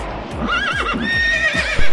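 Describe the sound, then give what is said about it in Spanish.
A horse whinnies loudly, its high, quavering neigh wavering up and down for about two seconds over a series of low, regular thuds. “¿Qué hace con un caballo, coño?”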